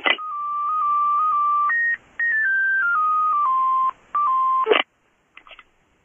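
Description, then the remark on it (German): A loud electronic phone ringtone plays a simple stepped melody of sustained beeping tones, with two brief gaps, then stops abruptly, followed by a few faint clicks. “Es muss doch mein Telefon klingeln.”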